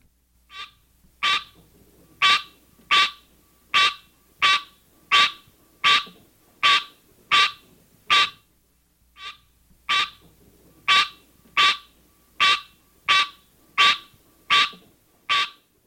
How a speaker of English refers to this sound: One parent, the green tree frog, Hyla Scenaria, has this call.